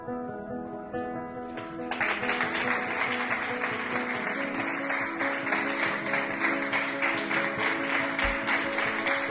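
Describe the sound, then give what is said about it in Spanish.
A crowd of workers of the Hospital Severo Ochoa in Leganés applauds steadily, dense sustained clapping that swells in at about two seconds over fading music with tonal lines, continuing loud and even to the end. “Son los aplausos, pero son los aplausos de los trabajadores del Hospital Severo Ochoa de Leganés, que le devuelven a la ciudadanía en señal de agradecimiento por salir cada día a sus balcones”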